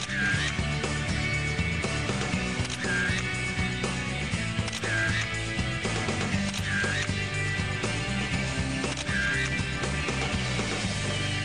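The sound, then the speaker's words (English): A laser printer runs steadily, printing photos, its mechanism whirring and clicking, with a rising chirp about every two seconds as pages feed through. No one speaks. “Hot off the laser printer.”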